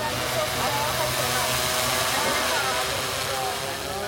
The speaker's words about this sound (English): Above me, there's the hum of drones carrying packages and food for deliveries to one of the city's roughly 20 million residents.